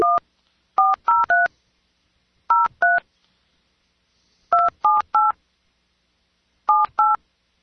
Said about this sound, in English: Wonder if I can dial this phone number.